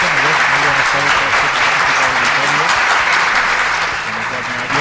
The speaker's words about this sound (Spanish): No, seguís aplaudiendo, hombre, que me hace un poco de ilusión.